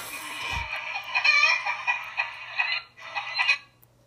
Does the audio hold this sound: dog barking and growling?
no